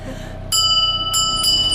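A dinner bell rings out in three quick, bright strikes aboard a boat at the Gdynia marina, each leaving a clear metallic shimmer, fairly loud over a steady low background hum.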